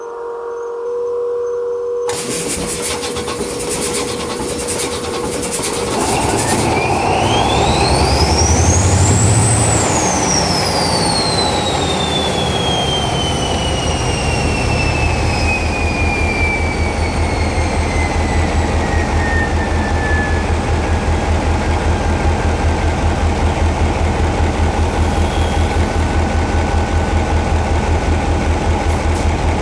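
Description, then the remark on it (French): A CC72000 diesel locomotive engine roars loudly and steadily, its deep rumble joined by a high whistling whine from the compressor and turbo that climbs sharply, then slowly glides down as the engine keeps throbbing. “mettre un son véritable sur le bruit du moteur d'une CC72000”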